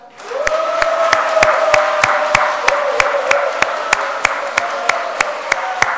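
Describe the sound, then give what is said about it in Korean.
An audience at a church award presentation claps in a steady, even rhythm, sharp claps about four per second over a noisy wash, with a sustained mid-pitched tone humming underneath throughout. No one speaks. “자, 이번에는 큰 박수 부탁드리겠습니다.”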